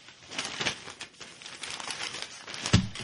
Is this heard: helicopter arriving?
no